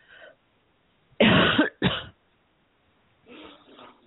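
Someone clears their throat close to the microphone in two loud, harsh bursts one after the other, with only faint, quiet sounds before and after.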